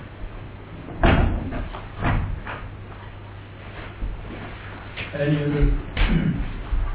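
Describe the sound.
A door is shut with a couple of solid thuds about a second apart, then another knock later, while a voice murmurs briefly in the background.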